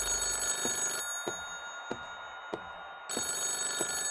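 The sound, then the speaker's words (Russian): A telephone bell rings loudly in two long trilling bursts separated by a pause, with faint regular clicks in the gap. No one speaks. “Разговор по телефону.”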